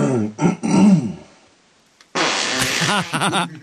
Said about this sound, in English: Does he clear his throat before he farts the yes, first he does. Time? Listen, he's just getting ready for it.